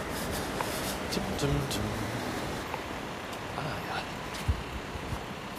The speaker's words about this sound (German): sorry übrigens für den Verkehr, bisschen laut, ich muss hier mal über die Ampel.